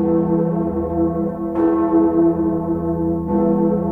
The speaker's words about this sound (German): Das ist wirklich ein toller Klang und eine beeindruckende und berührende Geschichte. Natürlich spielen Glocken nicht nur im Christentum eine Rolle